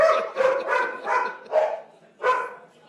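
Dogs bark in a quick run of about six sharp, tonal yaps, fairly loud, with short gaps between them and no talking, at a Cleveland Metro Parks oath ceremony.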